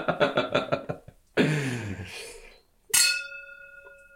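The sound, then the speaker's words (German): Vocal sounds and a voiced exclamation come first, then a single bright clink of wine glasses touching in a toast, its clear ringing tone sustaining and slowly fading to the end. “Prosit.”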